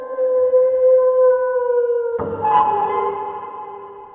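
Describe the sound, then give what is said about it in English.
A person imitates a wolf howling in the distance: a long, steady, tonal wail that holds for about two seconds, then breaks into a rougher, wavering cry that gradually fades. “And with that, you'll hear a howl in the distance.”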